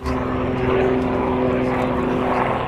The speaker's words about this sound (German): Ein Helikopter der KFOR kreist über dem Norden Kosovos. Die NATO-geführte Einsatztruppe hat nach den Unruhen am Montag ihre Präsenz hier deutlich verstärkt.